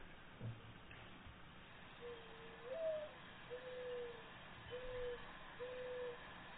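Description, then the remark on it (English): A dove coos in a slow series of about four low, soft, hollow notes, the first slightly higher and rising, played back from a phone with a thin, muffled quality over a quiet hiss. “I'll play the coup again”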